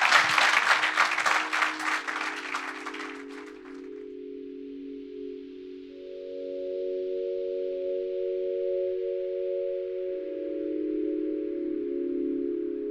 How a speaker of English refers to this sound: I'd just like everyone to give a big round of applause, please, to the three panelists,